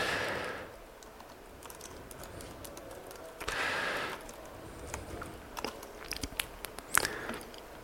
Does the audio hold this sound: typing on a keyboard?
yes